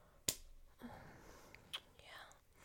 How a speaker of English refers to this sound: What's that? You're slapping my thighs?